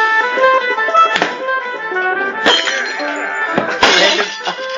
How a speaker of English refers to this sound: There, you hear quite a bit of, like, punching things and throwing, and some kind of sounds like glass broke or something like that. Oh, someone got thrown through a window. Well, they just dropped the glass.